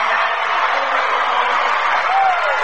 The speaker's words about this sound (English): And a round of applause in the background is following the announcement that the Rushi Raiders are state champs. Rushi victorious 74-57 over Cornerstone Christian.